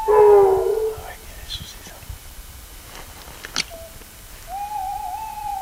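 A large owl hoots close by: a strong, wavering call at the start, then a quieter pause with soft rustling, and a long, steady hoot near the end.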